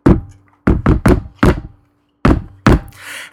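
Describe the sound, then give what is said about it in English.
Sharp knocks on a hard surface tap out the shave-and-a-haircut rhythm as a secret knock: five quick raps, a brief pause, then two firm closing knocks, followed by a soft breathy rustle. “And I said, okay, here, we can have this as our secret knock.”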